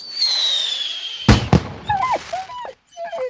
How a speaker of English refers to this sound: A lot of people, if their dog gets scared by a firework, they'll try and console the dog and they'll crouch down and they'll cuddle it and say, oh, everything's all right.